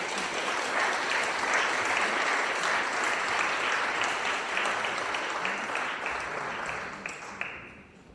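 An audience applauds steadily for about seven seconds, many hands clapping in a dense, even wash that fades out at the end.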